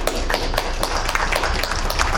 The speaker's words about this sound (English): And I'd just like to give you guys a big round of applause. Thank you so much.